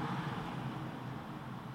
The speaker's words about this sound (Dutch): Het verkeer, het stadsleven van tienen gaat hier, zoals dat op vele plaatsen het geval is, gewoon voorbij.